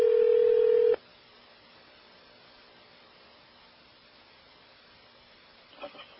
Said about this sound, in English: Oh, somebody is ringing the phone.